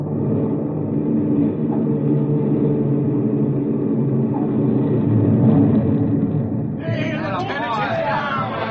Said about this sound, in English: It was minutes, but it seemed hours before the big plane lumbered into the pattern, wheels reaching awkwardly for the runway.